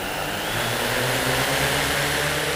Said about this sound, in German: Die Kameradrohne hebt ab und steigt senkrecht auf, wie ein Hubschrauber. Sechs kleine Rotoren drehen sich und halten die Drohne waagerecht in der Luft. Schnell fliegt sie hin und her über die Wiese